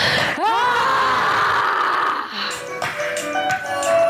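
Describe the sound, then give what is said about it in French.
Several people let out a loud, sustained scream together on a count of three, a second time, after inhaling, starting abruptly and holding for about two seconds before breaking into ragged, trailing cries and laughter-like vocal sounds. “Ok, donc je compte jusqu'à 3, on inspire et on crie comme on veut.”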